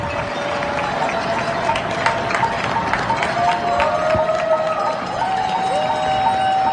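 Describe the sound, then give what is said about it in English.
Cheering from many people spread across rooftops in Hell's Kitchen, Manhattan, New York, at 7 o'clock in the evening, a steady wash of shouts and claps with a few sustained whistles rising out of it, never dropping off throughout. “People on rooftops cheering.”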